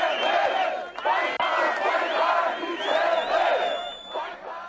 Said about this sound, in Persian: ولی با وجود به صورت عموم عادلانه توصیف شدن انتخابات رئیس جمهوری ارمنستان از سوی ناظران سازمان امنیت و همکاری اروپا، روز چهارشنبه هزاران نفر از طرفداران مخالفین به نشان اعتراض به میدان مرکزی یروان پایتخت این جمهوری ریختند.